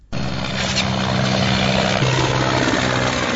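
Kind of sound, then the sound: vehicle, helicopter flying overhead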